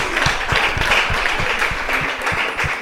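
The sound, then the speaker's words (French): A crowd applauds the Marie Immaculée school team after its answer in a quiz, a dense wash of many hands clapping at an even loudness for a few seconds, with no voices standing out. “On l'applaudit. On applaudit.”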